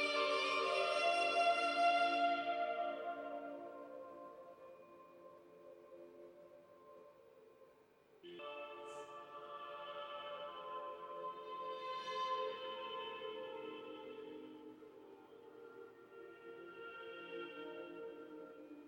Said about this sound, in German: Hast du eben gehört, wie dieser Hall in diesem Raum wirkt und wie diese irre, beruhigende, erhabene Musik klingt? Wir sitzen hier in dem Sala della Boveda. Das ist im Inneren des Uhrenturms, des Glockenturms, auf der Ebene der Aussichtsplattform.